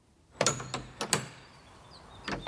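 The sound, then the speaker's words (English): Several sharp metallic knocks on an old bell kept on the ground floor of St. Lawrence's church, which nearly 800 years ago hung near the top of its Saxon tower; struck irregularly, each leaves a faint, high ringing tone and a low hum that linger between strikes; no one speaks. “the ground floor of the church, and I am actually allowed to just knock it so we can actually hear it a little bit.”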